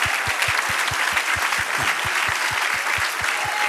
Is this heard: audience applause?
yes